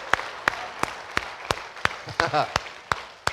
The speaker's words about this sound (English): We're all clapping for you.